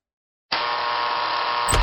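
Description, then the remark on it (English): A steady electric door buzzer drones loudly for over a second, then a sharp metallic click of a lock releasing cuts in just before the buzz ends. No one speaks. “Sorry, there's just something about the sound of a buzz, then the click of the lock on a door.”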